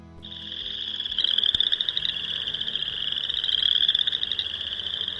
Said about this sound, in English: A bit more of that boreal chorus frog coming back, courtesy of the Wisconsin Citizen-based Monitoring Network, as we explore why frog habitats are so critical as amphibian populations as a whole, they're in decline.